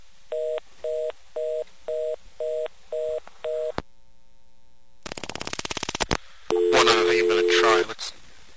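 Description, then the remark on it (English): A telephone line sounds a string of short, evenly spaced beeps, then a rapid burst of clicks, followed by a brief steady dial tone with a harsh, noisy layer over it. “This dial tone is ridiculously easy to talk off.”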